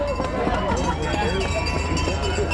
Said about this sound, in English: You can hear that crowd, a very warm celebration welcoming Aaron in.